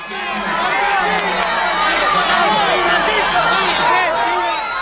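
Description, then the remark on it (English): A large crowd of pilgrims in St. Peter's Square cheers and screams continuously as the Pope meets them, kissing babies and waving, many excited voices overlapping in a loud, dense roar of shouting and chatter. “And here yesterday, the Pope meeting pilgrims in St. Peter's Square, kissing babies, waving to screaming members of the crowd.”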